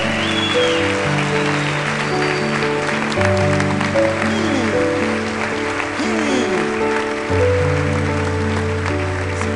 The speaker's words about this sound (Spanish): Traigo a alguien que lo crea, que le dé un aplauso al Padre.